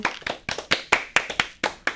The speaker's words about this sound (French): J'aimerais bien quelques applaudissements quand même.